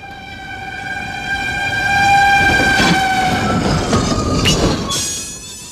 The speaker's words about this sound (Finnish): Juna pysähtyy tähän.